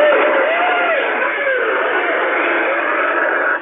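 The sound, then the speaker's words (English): An applause button on a kids' toy DJ device plays a loud, tinny recording of crowd cheering and clapping that runs steadily for a few seconds, with a few whooping swoops, then cuts off abruptly. “That's an applause button on some weird kids DJ thing.”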